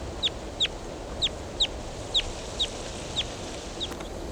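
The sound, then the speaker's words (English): A wild bird calls in a steady series of about eight short, sharp, high-pitched chirps, roughly two per second, over a constant low hiss, the last few growing fainter. “There goes a wild bird.”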